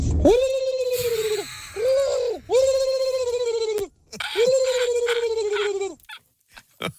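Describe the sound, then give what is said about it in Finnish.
A person imitates pigeon cooing as an animal karaoke entry: three long, throaty, warbling coos with wavering pitch, loud, separated by brief pauses and ending with a few short breathy sounds. “Otetaan seuraavaa pulustajaa täällä sitten ääneen.”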